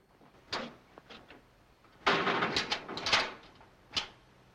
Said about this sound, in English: The jailer closes the barred door behind him.